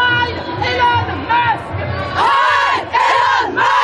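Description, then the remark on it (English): Activists chant in unison 'Heil Donald Trump, Heil Vladimir Putin, Heil Elon Musk' while doing a Nazi salute. The chanting is loud and rhythmic, with strained, raised voices. It comes in waves and builds to a louder, harsher second half with sustained yelled syllables. “Activists scream, Heil Donald Trump, Heil Vladimir Putin, Heil Elon Musk, while doing a Nazi salute.”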